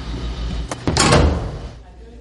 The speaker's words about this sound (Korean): 한 어린이가 자판기 앞에 서 있습니다. 버튼을 누르자 쿵 하는 소리와 함께 작은 입구 앞으로 뭔가가 떨어지는데요.